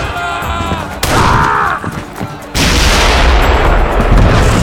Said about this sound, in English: With the 3rd cannon detonation, the tide turned. Fear raced through the hearts of the engines. The projectile killed 1 and wounded 7 Sioux, and a general exodus began.